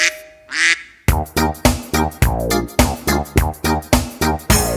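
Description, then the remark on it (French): A quick run of loud, nasal duck quacks repeats in a steady, bouncy rhythm, about a dozen close together after a brief opening call, with no talking. “Lundi, les canards vont à la mare, mare, mare.”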